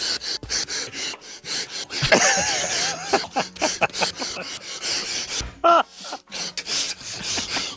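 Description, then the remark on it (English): A choppy, edited string of wrestler Randy 'Macho Man' Savage's heavy breaths, gasps and grunts, loud and cut rapidly one after another, with a brief strained wail in the middle and no words. “Have you heard the Randy Savage only breathing... I was saying only breaths.”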